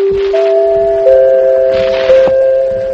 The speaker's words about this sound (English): The fourth chime rings only when news is breaking of world importance. When it rings, all of us at NBC spring into action, wherever we may be. The fourth chime means to us, call the office. Get down here. Big things are happening.